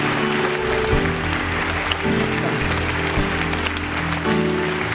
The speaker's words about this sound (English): Let's once again clap and shout unto the Lord. Let's rejoice with all of heaven. Thank you, Jesus.